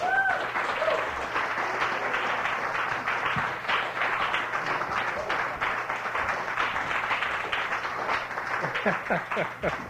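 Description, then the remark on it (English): A crowd at a St. Louis literary event applauds steadily to welcome a writer for the whole stretch, a dense, even wash of clapping with scattered finger snaps from the back mixed in and a few voices rising briefly near the start and end. “Got some finger snaps in the back, right on.”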